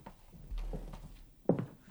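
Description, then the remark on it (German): A door to a darkroom opens: a low scraping rumble, then a single sharp clunk of the latch or frame, with no voices. “Und hinter dieser Tür hier?”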